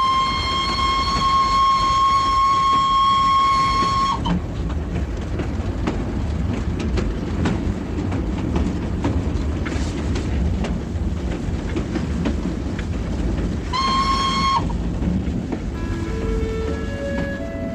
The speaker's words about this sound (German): Der Express von Bukarest nach Konstanza donnerte durch die Nacht, vorbei an balearischen Dörfern, an Maisfeldern und Schafweiden, über die große Donaubrücke bei Czernavoda und weiter in die platte Steppenlandschaft der Dobrudscha.